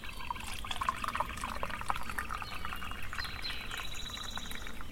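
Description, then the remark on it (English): Liquid pours steadily from a Stanley thermos into a cup, a continuous gurgling splash that shifts slightly in pitch as it fills, with no talking over it. “I finally broke down over the winter and bought myself a real thermos. This is a Stanley.”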